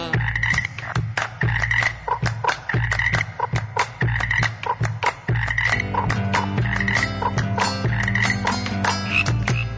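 Toads at a lagoon croak in a steady, rapid rhythm, a dense chorus of repeated calls with no talking, joined by a deeper droning layer in the second half.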